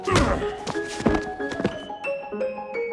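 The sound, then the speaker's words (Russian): A stone strikes the back of a head: a handful of dull, heavy thunks in an uneven rhythm, with thin sustained tones ringing underneath and a faint voice. “Мало тебе, что я тебе сейчас камнем по затылку ударил.”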